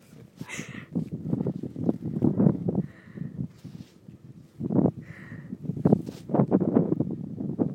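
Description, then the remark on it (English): A distant ferry's deep engine rumble churns steadily as it comes in, turns, then banks and reverses in to dock, overlaid with gusty wind buffeting and occasional rustling bursts that swell and fade. “So you can hear it coming in. I hope it's picking this up. So it's turning. And then it has to bank and reverse in, doesn't it?”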